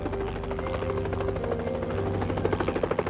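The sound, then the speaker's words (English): A helicopter circles overhead during an FBI and state police search along railroad tracks, with a steady low rotor thump and engine whine, its rhythmic chopping growing slightly louder toward the end as it passes. “They scanned the area inch by inch as choppers circled overhead.”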